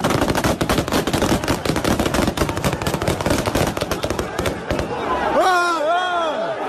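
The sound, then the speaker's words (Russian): A long, rapid volley of sharp gunshots, fired into the air by the security guards of the republic's head Yunus-bek Yevkurov at a protest rally, cracks out in dense bursts for several seconds, then stops as loud shouting voices rise and fall over the noise of the protesting crowd. “В ответ на это охрана главы республики открыла огонь вверх и увела его.”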